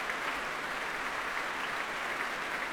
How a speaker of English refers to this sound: And their colleagues in the orchestra applauding. And in fact, everybody's getting a turn as Semyon Bychkov spins round to bow deeply to the audience here at the Royal Albert Hall.